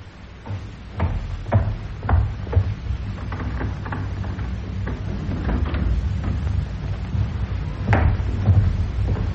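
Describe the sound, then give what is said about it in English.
A door thuds shut, followed by a series of sharp knocks and clicks as it is latched and locked, with a fainter rattle near the end. No voices are heard. “Now lock that door.”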